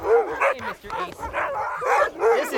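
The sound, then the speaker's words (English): A dog barks in a rapid run of sharp, yappy bursts, about five or six in quick succession with brief gaps, fairly loud and with a whiny, high-pitched edge. “Hi, dog.”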